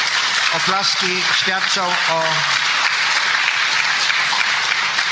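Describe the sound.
Steady, dense applause from an audience fills the whole clip, a loud continuous wash of clapping, with a voice speaking briefly over it near the start.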